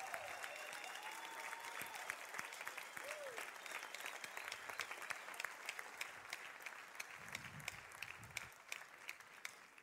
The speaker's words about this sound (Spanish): Dale un aplauso a Jesús bien fuerte.